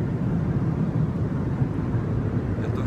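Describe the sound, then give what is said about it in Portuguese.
A steady, loud low-frequency roar fills the whole clip, the constant drone of an airplane cabin's engines with no pauses or changes in intensity. “e hoje eu tô aqui num lugar diferente para fazer esse vídeo. Eu tô aqui no avião.”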